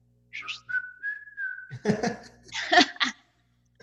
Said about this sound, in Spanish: A ver, chifla.